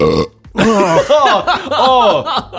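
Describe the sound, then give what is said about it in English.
A loud, long burp into a microphone with a pop filter, after a Costco lunch of a Polish dog, rolls out for about two seconds, croaky and warbling as its pitch rises and falls in rough pulses, after a short low sound at the start. “It bounced off the pop filter.”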